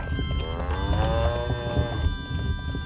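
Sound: cow mooing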